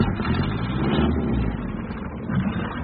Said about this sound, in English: There's 8 horsepower in this engine.